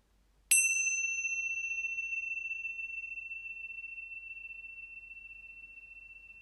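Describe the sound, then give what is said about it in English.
A single bell is struck once and rings out clearly, its bright tone lingering and slowly fading over several seconds in an otherwise quiet space. “When you hear the sound of the bell, you will see many different animal representatives of the first exo group take shape around you.”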